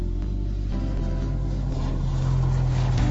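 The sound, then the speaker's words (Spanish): An Iberia airliner starts its engines while being pushed back from stand 63 so it can maneuver, after the mechanical boarding arm separates: a steady, heavy low rumble with a droning hum, and a tone that climbs slightly toward the end. It is continuous and fairly loud, with no voices. “El brazo mecánico se separa del avión al tiempo que este es empujado hacia atrás para que pueda maniobrar mientras pone los motores en marcha.”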